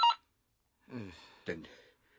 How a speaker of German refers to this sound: Telefon.